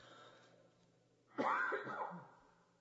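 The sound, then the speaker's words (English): A preacher gives a single harsh cough during his sermon, sharp at the start and rough through its tail, after a moment of quiet, with no talking around it. “I apologize for coughing so much during the preaching, but the deacons told me if I didn't preach this morning, I was fired no matter what.”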